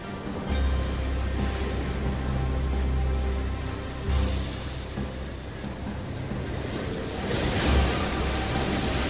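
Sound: sea waves surging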